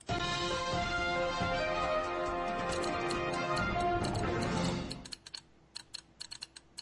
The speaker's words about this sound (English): By the way, it sounds like me typing on my keyboard, like my super loud freaking keyboard that I'm not allowed to type on when we're doing anything.